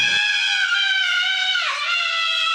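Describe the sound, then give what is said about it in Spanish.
A boy screams at length after falling to the floor, one loud, piercing, high-pitched wail holding steady for over two seconds with a brief wavering dip near the end, without any talk. “¡Qué gritos! Eran tan fuertes que sus papás acudieron corriendo de inmediato al cuarto.”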